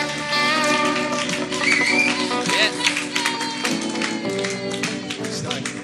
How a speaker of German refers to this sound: Und ich möchte, dass wir ihm mal einen richtig, richtig, richtig fetten Tracks-Applaus geben und ihn willkommen heißen.